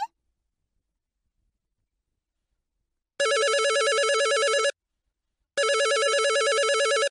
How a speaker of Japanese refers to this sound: おっと、電話電話。